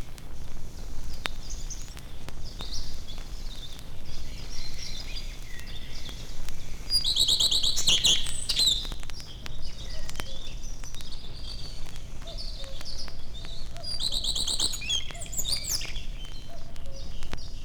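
A common redstart sings short, bright warbling phrases, one burst near the middle and another toward the end, over a steady outdoor hiss with fainter chirps from other birds around.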